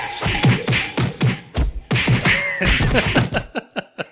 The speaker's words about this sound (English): Throwing some punches.